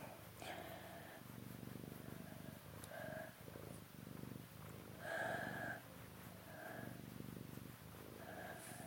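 cat purring

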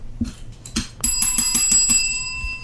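bell rung

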